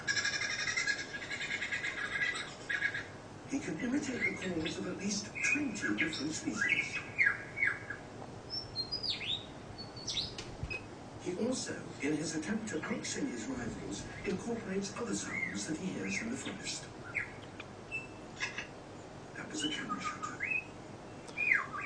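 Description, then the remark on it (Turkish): A bird runs through a varied string of whistles, squawks and chirps in imitation of other bird species' calls, fairly loud, with a low murmuring voice underneath in places. “Bu çıkardığı sesler kendi karakteristik sesi değil, yani başka kuşların çıkardığı sesler.”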